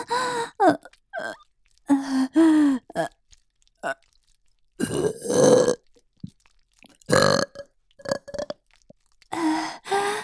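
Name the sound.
burping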